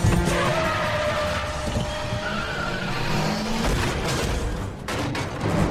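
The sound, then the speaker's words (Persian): A car brakes hard, its tires squealing and skidding loudly under a dense roar of engine and road noise that lasts for several seconds, sustained. “وای خدا جوش برو جوش، هر وقت بهت گفتم بزن رو ترمز.”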